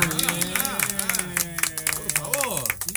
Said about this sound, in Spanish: Perdón, ¿no la vamos a aplaudir? Buen día.